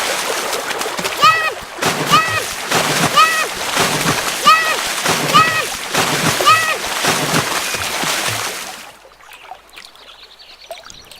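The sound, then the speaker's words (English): A loud, sustained rush of splashing water with rhythmic surges about once a second, ending abruptly and leaving a faint, quiet tail. “Whee! Splash.”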